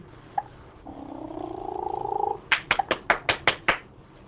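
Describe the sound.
A woman makes a rolling, purr-like sound with her voice for about a second and a half, then claps her hands seven times in a quick, steady rhythm, fairly loud, so a baby will look up.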